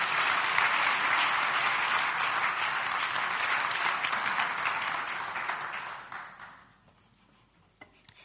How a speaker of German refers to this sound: Heißt ihn doch mal herzlich willkommen mit einem kräftigen Applaus. Bitte schön.